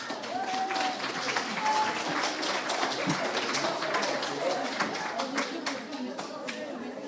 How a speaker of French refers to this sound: Pour continuer sur ce présentoir, je vous demande d'applaudir le collège Nikit Saint-Phal.